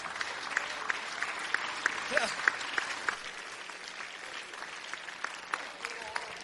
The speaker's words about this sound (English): Jesus, fill the house. Fill the house. Would you clap your hands before you're seated?